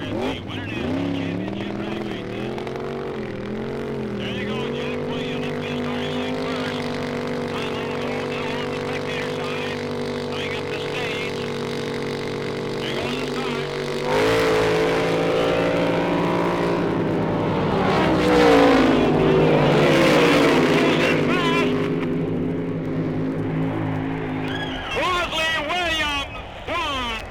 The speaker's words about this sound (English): The two fastest cars in a thrilling race. The car that won, blown up and literally put back together the day before the race, and the opponent, one of the fastest and most colorful figures in drag racing today.